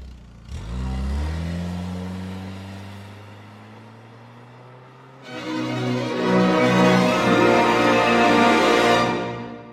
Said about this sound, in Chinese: 涂树东再度向赵尔童咕噜几句话，这才迈步跨上汽车，开出了巷道。